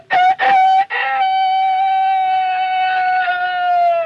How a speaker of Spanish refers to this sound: En ese momento se escuchó el canto del gallo Kiko.